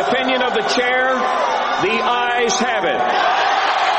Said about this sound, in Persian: با این حال در طول روز و شب و در جریان سخنرانی‌ها بعضی از مخالفان همچنان با فریادهای اعتراض‌آمیز به مخالفت خود ادامه دادند.